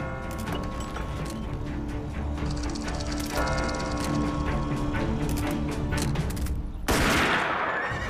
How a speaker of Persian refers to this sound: تیراندازی بود